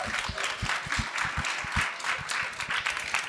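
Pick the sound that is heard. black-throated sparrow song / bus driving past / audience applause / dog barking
audience applause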